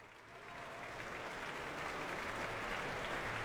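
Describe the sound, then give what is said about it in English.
A large audience in the Royal Albert Hall buzzes before a 2012 BBC Proms concert by the Vienna Philharmonic Orchestra, a dense, steady wash of crowd noise and clapping that swells gradually louder over a few seconds, with no single voice standing out. “As you can hear, the Royal Albert Hall is buzzing at the prospect of a second evening in the company of the magnificent combination of the Vienna Philharmonic Orchestra”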